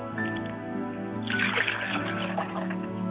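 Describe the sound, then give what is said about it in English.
Continuous splashing of water as hands scoop and wash the face during a ritual honouring ancestors, beginning a second in and carrying on over soft, steady background music. “I like to wash my face so I don't meet my ancestors with a still face.”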